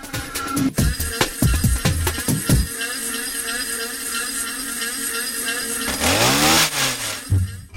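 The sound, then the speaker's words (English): The small two-stroke engines of a leaf blower and a weed whacker buzz and whine, played as musical instruments for garden music, revving up and down in bursts, with a steady high drone throughout and a rising-falling rev near the end. “I wanted to play with those, so I would ask them, let's play with these machines, let's play with a leaf blower, with a weed whacker.”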